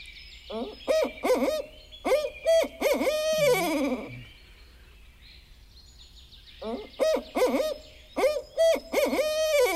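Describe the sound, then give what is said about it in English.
A barred owl calls in two loud, rhythmic bursts of hoots separated by a pause, each series rising and ending in a drawn-out, descending note, with faint background hiss. “And they're the one that has the notorious "Who cooks for you? Who cooks for you all?" in terms of what its hooting sounds like.”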